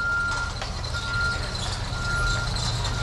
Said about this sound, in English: On this day, a refrigerated truck loaded with meat is backing up to the kitchen's loading dock.